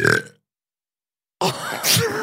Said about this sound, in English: Oh my God. That was the biggest burp. It that came from smells deep. Awful.